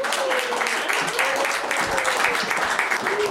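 An audience bursts into sustained applause, a dense, steady wash of many hands clapping at once, staying loud and even throughout with a faint tonal whistle or murmur underneath.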